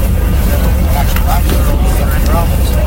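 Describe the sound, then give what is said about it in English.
Steady low engine rumble from lobster fishing boats motoring out from the wharf in Port Medway, Queens County, at 7 a.m. on Dumping Day, loud and continuous with wind-like hiss, while faint voices or calls surface briefly in the background. “Queens County fishermen motored out at 7 a.m.”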